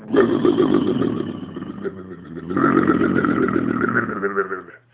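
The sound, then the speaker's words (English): A voice imitates a Jaguar car engine roaring to life as the key is turned, a rough, buzzing growl that surges in two long revving bursts, dipping briefly in the middle before swelling again and cutting off. “And Mr. Brown would turn the key and the jag would go.”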